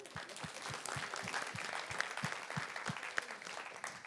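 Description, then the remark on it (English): An audience claps steadily, a dense patter of many hands with a few sharper individual claps popping out, sustained at a fairly even level for the whole stretch, applauding the almost 2,500 raised at a garage sale, announced at a church. “So can we get a round of applause for that?”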